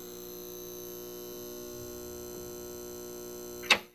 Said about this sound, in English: I never understood in libraries why the buzz of the fluorescent was so loud.